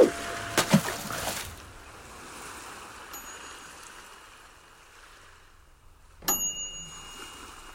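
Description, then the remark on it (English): An oven timer bell rings out sharply near the end, after a faint earlier ding, over a steady rushing background hiss with a few clattering knocks at the start. No one speaks. “Is that bell? The timer on the oven's gone berserk.”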